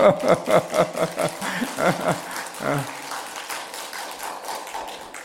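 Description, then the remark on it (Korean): A church audience breaks into applause in encouragement, a dense patter of clapping that peaks early and gradually thins and fades over several seconds, with no one speaking over it. “한번 격려 박수해 주십시오.”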